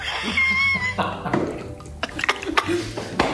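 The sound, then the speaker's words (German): A voice imitates a fish breathing underwater with wet mouth sounds: soft gulps, squishy pops and drip-like clicks scattered irregularly over a few seconds. “Wie hört sich in deinem Kopf ein Fisch unter Wasser an?”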